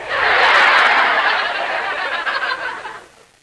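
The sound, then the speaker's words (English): A dense flock of chickens clucking and squawking all at once, loud, a busy continuous chatter that fades away after about three seconds. “What were those, chickens?”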